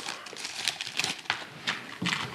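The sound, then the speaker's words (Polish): A plastic foil bag crinkles, a steady run of sharp rustling crackles with a few louder scrunches, as it is taken out of a pocket, heard on its own without any voices. “14, bo worek foliowy.”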